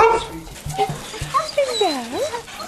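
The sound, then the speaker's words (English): Several dogs in a kennel yelp and whine together, high-pitched cries sweeping up and down, broken by a few short, sharp barks, all moderately loud and overlapping. “But when they all go out for a walk, I'll open all of these kennel doors and the whole lot will stream down the field.”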